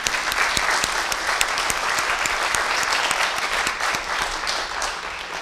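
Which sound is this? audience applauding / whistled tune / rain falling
audience applauding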